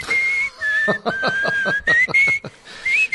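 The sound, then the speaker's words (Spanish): A person whistles a lively tune, the bright, steady melody shifting pitch across several phrases, with rhythmic tapping or percussion underneath. “Te va a llevar al Senado a que te disculpes públicamente por estarle chiflando su Mauser.”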